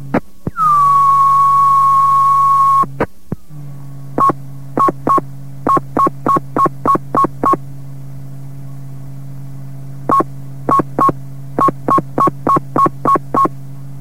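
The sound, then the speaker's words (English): Fire alarm box code tones over a radio channel, transmitting box 127 for 25 Cross Street: a long steady beep, then rapid short beeps tapped out in distinct groups separated by pauses, with a low hum running underneath. “25 Cross Street will transmit the box.”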